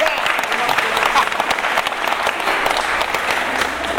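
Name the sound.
applause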